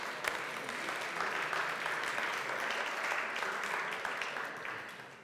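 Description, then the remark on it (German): An audience claps steadily for about five seconds for the two men who have never received a speeding fine, a dense wash of many hands with no clear individual beats, holding an even loudness before easing slightly at the end. “Also das ist ein Applaus.”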